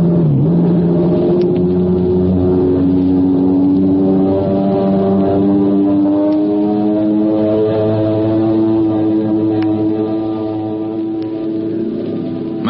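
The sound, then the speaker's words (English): A low-flying airplane buzzes over a field, its engine droning loudly and steadily overhead, a thick harmonic buzz whose pitch climbs gently and then holds, with no voices throughout. “Buzzed that field twice now and still no signs of life.”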